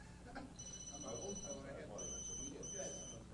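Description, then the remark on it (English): A phone ringtone chirps out high, bright electronic tones in short repeating bursts with brief gaps, heard over a low murmur of people talking. “Who in here's got cool ringtones?”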